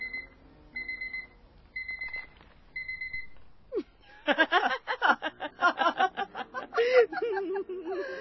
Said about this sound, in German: Mein Wecker. Hey, Hanne, hör mal, der funktioniert ja.